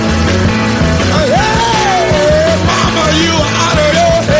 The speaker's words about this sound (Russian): А что парень на одной ноте орет, так это он от восторга.